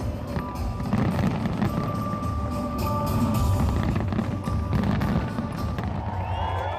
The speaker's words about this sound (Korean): 밤이 되면 엄청난 규모의 불꽃놀이가 펼쳐져서 밤하늘을 수놓습니다.